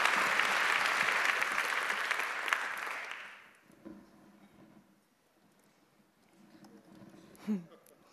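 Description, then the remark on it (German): An audience at a lecture claps loudly and steadily for about three seconds to welcome the speaker, a dense wash of applause that quickly dies away into quiet with faint shuffling and low murmurs. “Applaus.”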